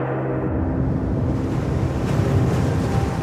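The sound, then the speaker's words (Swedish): Dark, heavy waves surge and slosh against the cockpit windshields of an Airbus airliner that has come down in the water of the Hudson River, in a continuous, loud rushing roar with a windy, churning texture. No voices, just the steady pounding wash of water throughout. “Mörka vågor piskar mot förarhyttens vindrutor och våldsamma skakningar river genom planet.”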